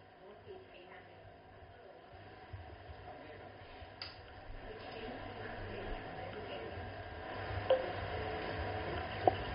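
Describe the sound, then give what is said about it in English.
Two short, high electronic beeps from an alarm timer being set for half an hour, spaced a second or so apart near the end, over a steady low hiss of background noise. “I will set the alarm now.”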